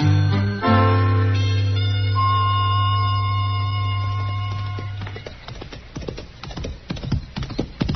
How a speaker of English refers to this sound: Well, that's a good-looking horse Chester's riding, man. He's thinking of buying it, Doc.